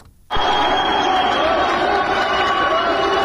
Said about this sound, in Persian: صدای تشویق قوی ترین زن ایرانی است، گیتی موسوی، زمانی که نام خود را در تاریخ ورزش جهان جاودانه کرد. این زن قهرمان در فرودگاه مهرآباد تهران با کشیدن یک هواپیمای قول پیکر به وزن 17 تن و 750 کیلوگرم به مسافت 5 متر و 17 سانت